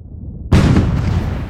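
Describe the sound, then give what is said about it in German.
A single heavy blast from the large cannon El Cristiano erupts suddenly after a low rumbling quiet, a loud booming report that rolls on and decays slowly with a sustained roar. “Das war ein Schuss vom Cristiano!”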